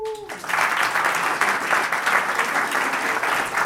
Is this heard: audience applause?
yes